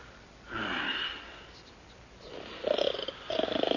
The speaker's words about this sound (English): Does he not snore beautifully, comrade? He does. Beautifully and quickly.